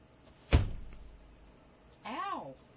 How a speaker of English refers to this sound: Now this is the part where I go and kick something.